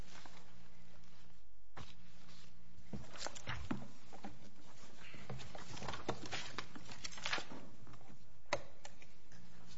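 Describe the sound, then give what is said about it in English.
Papers rustling and shuffling in a courtroom as a judge gets set up for an oral argument, in irregular bursts of crisp, papery crinkles and soft taps, fairly quiet, with short pauses between movements and no one speaking. “I'm just going to be rustling papers here for just a minute to get set up.”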